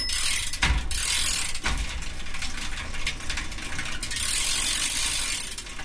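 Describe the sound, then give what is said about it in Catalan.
A bicycle towing a trailer rolls by at the door of a doctor's surgery, its freewheel ticking in a steady rapid ratchet over a hiss of rattling metal, with a couple of sharp knocks early on. No voices. “En la porta de la consulta del metge es van trobar Tomàs, que passava per allí amb la seva bicicleta i el seu remolc.”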